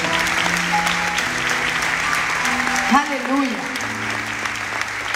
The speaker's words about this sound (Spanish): ¿Cuántos pastores hay acá? Bueno, pues den un aplauso.